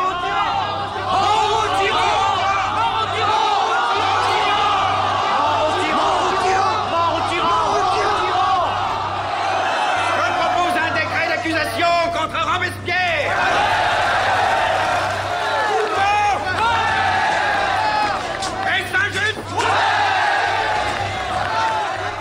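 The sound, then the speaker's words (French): A large crowd of deputies shouting and clamoring together in a dense, continuous uproar in an assembly, with overlapping cries rising and falling throughout, as Robespierre is accused of being responsible for the Terror and arrested on 27 July 1794 in Paris. “Le 27 juillet 1794, sous les cris des députés, Robespierre, accusé d'être le responsable de la terreur qui règne dans les rues de Paris, est arrêté.”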